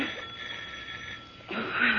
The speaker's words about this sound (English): You can't answer the doorbell, can you, Henry? Huh?